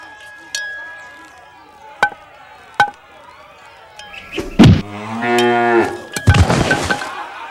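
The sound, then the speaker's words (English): A few sharp knocks and clicks, then a person imitates a loud, drawn-out cow moo, playing a cow at bat in a Little League baseball game being hit by a pitch, ending in a rougher, strained bellow. Fairly loud. “and now a cow at bat in the bottom of the sixth inning of a Little League game getting hit by a pitch.”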